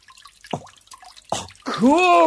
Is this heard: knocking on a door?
no